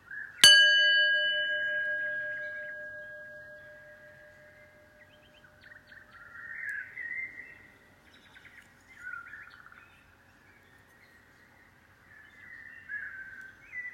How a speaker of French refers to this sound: prendre trois grandes respirations en écoutant le son du gong.